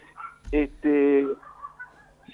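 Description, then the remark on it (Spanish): A dog barks twice, a short sharp bark followed by a longer, drawn-out one, with quieter talk in the background between them. “Justo ahora empieza a ladrar el perro que estaba absolutamente tranquilo.”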